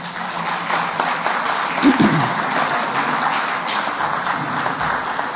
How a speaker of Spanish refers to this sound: A continuación, los alumnos de este congreso harán una representación teatral de la negociación del karma por buenas obras con el señor Anubis y los señores del karma, así como el juicio final. Recibámoslos con un caluroso aplauso.